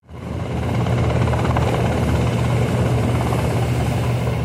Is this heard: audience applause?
no